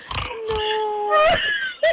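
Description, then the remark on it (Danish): A car gives off a pig-like squealing noise: shrill, whiny tones that hold and slide in pitch, broken up by short rough bursts, repeating a few times in quick succession. “Ja, det lyder som om, der er grise i baggrunden, eller er du sammen med din familie?”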